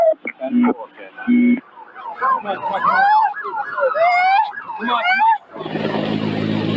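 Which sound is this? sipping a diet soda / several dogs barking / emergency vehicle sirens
emergency vehicle sirens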